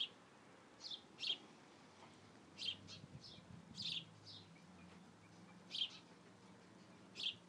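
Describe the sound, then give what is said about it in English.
Baby birds chirp from a nest in a corner of a house in a garden, in short, bright bursts repeated every second or so against a soft outdoor hum, moderately loud. “Got a little corner here with a whole bunch of baby birds.”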